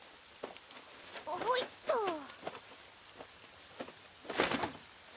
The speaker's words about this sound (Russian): Дождь идет. Сезон дождей все-таки. Льет не переставая.